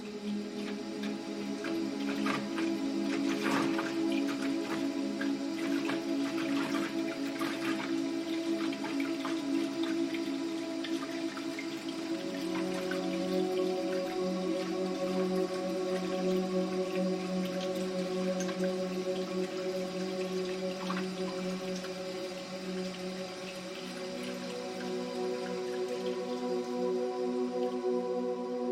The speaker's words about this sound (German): Hier füllst du die Kanne wieder. Das Geräusch des plätschernden Wassers ist monoton und beruhigend.